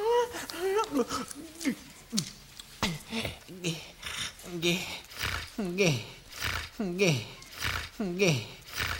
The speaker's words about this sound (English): Stop breathing so heavy. Please, we gotta study.